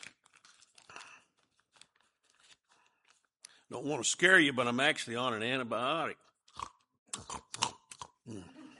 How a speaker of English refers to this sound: Excuse me, let me get a cough drop.